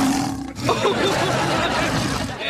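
A lion roars loudly, one long, growling roar lasting a couple of seconds after a brief lead-in, with no voices alongside.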